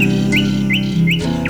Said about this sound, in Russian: У реки под ивою слышу соловья.